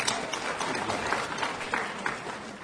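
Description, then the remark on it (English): An audience claps together in a steady, dense burst of applause, a crackling wash of many hands that holds at an even, moderate loudness for a few seconds with no voices over it. “Let's applaud that too, okay?”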